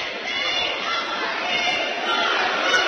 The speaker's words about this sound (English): Really nice crowd here tonight. Absolutely. They opened the top deck first on time, both sides. I think that's the first time it's been open on both sides this season.